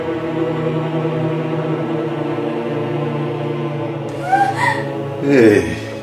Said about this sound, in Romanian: Auzi-o pe copil, auzi-o cum se chinuiește.